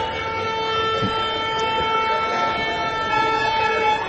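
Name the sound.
trucks passing by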